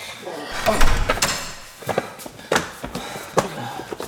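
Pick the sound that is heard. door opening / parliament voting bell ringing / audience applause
door opening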